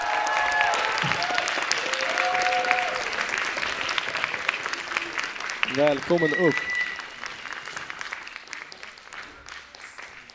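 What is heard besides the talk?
audience applause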